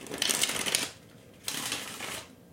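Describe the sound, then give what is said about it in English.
Two quick bursts of crisp, riffling shuffles of a deck of cards before a card is drawn for a reading, each lasting under a second with a short pause between, fairly quiet with no talking. “So I'm going to go ahead and shuffle.”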